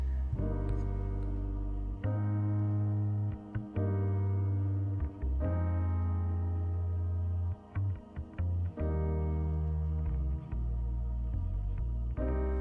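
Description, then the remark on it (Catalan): A song plays with no voices: a full, bass-heavy instrumental intro with effects-laden, slightly distorted tones, sustained chords punctuated by brief rhythmic breaks, steady and fairly loud throughout. “Bueno, i ara anem a escoltar una cançó que segur que us agradarà molt.”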